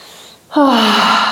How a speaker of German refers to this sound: Wow, krass, ich kann atmen. Yeah, ich kann atmen. Boah, jetzt muss ich tief atmen.